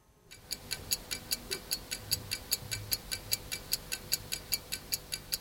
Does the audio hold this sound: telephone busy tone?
no